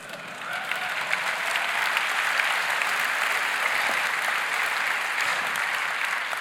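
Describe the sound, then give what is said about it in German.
An audience at a talk about religion and atheism claps steadily throughout, a dense, even wash of many hands with no break, holding a constant moderate loudness with no voices standing out. “Es war nicht angebracht zu klatschen, weil wenn man Manfred Dr.”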